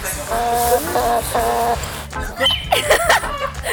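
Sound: hens clucking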